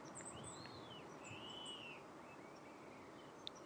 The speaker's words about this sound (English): Guys are in the big conifer you can hear this morning again. There's actually loads of bird activity this morning. I mean, because wee things like the wren and the dunnock, and at this time of the year, the blue tits and great tits and coal tits